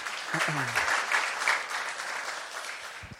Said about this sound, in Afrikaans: Julle kan vir haar lekker hande klap gee.